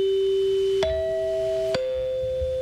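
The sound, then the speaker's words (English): Three bell-like chime notes ring out in sequence, each struck cleanly and left to sustain, forming a short melodic signature of a broadcast network, with no voices present. “The National Broadcasting Company forms. And literally, they did it on a xylophone back in those days.”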